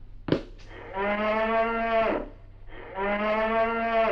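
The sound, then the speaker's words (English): A cow moos twice, each call a long, loud, low-pitched bellow with a rich harmonic tone, separated by a short pause and preceded by a couple of brief clicks. “Oh, well, Mrs. Munster must be fixing oxtail soup for lunch.”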